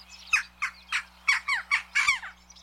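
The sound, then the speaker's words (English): A jackdaw gives a rapid run of about seven harsh, scratchy calls, fairly loud, with no voices and only a faint steady hum underneath. “Some cultures saw the jackdaw as a predictor of rain, others as a savior of crops, or possibly an omen of death.”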